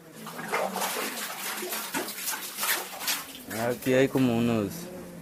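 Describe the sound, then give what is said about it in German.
Water splashes and sloshes steadily as a light bucket is hauled up from a dug well, fairly loud, with a brief voice rising over it near the end. “Es ist leicht, Wasser raufzuholen.”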